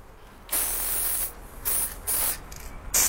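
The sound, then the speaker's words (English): An aerosol spray paint can hisses in a series of bursts: one long spray followed by four shorter, quick blasts, loud, with no talking. “And for the artist guys, those type of creative guys, it became the paint, the aerosol, and the marker.”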